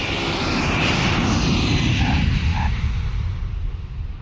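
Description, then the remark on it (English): A loud, steady roar of an airplane engine fills the whole stretch, deep rumbling with a broad whooshing hiss on top, easing slightly toward the end. No voices. “As he exited a plane at Las Vegas's McCarran Airport.”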